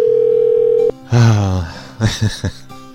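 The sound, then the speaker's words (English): A steady, droning telephone dial tone holds for just under a second, then cuts off abruptly, followed by a loud gliding tone and several short, choppy bursts of sound, as a caller rings back a number that hung up, calling from a New York number. “There's another hang-up. I'm going to call them back.”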